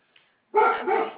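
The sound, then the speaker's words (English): A dog lets out one drawn-out bark, fairly loud, after a brief quiet moment with a tiny faint blip. No one speaks. “I'm sorry, I can't get my dog to start barking”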